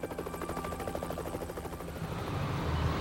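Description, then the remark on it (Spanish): A helicopter's rotor thumps in a steady rapid chop, loud, swelling slightly as it passes overhead, with no voices present; helicopters watch from the air during a night-long search around railway tracks. “Examinaron el lugar centímetro a centímetro mientras helicópteros observaban desde el aire.”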